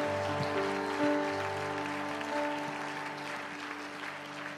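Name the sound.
audience hand clapping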